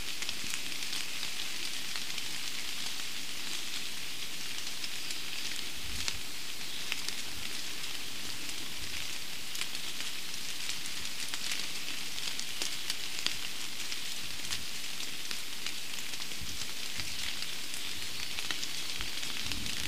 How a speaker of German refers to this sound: Und so klingen Regentropfen auf Buche.